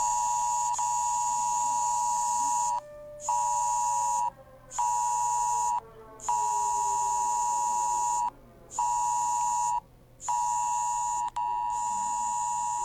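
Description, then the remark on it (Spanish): A loud, harsh electronic alert tone blares from mobile phones in long sustained bursts broken by short gaps, with a steady piercing buzz-like pitch and no one speaking over it; a test of the regional ONEMI emergency alert system in Chillán, Chile, at 11 a.m. on a Thursday. “A las 11 horas de este día jueves se activó la prueba del sistema de alerta de emergencia del ONEMI regional en los dispositivos móviles de Chillán.”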